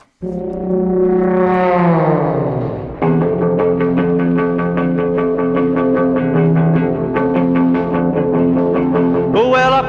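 A 1959 rock and roll 45 rpm record plays loudly, opening with a swooping, bending horn-like tone before settling into a steady, pulsing riff with a driving beat. No voices.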